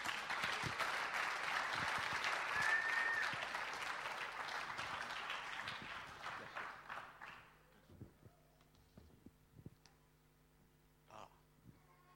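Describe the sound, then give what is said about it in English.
A church audience on a Sunday morning claps together for a speaker as he comes up, a loud, dense burst of applause lasting several seconds, then it thins out and fades to a few scattered claps and quiet room noise. “So as he comes and leads with us this morning, why don't you give him a clap as he comes up.”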